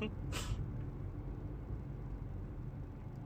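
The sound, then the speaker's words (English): A brief, sharp hiss of a semi-truck's air brake bursts out near the start, then fades into a steady low engine and traffic rumble. “Oh, there's the semi-truck, and he just pulls in right behind it.”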